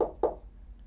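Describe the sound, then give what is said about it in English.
Two quick, muffled knocks on a door, close together, then quiet room tone. The raps are dull and low, with no voices. “Somebody's at my door.”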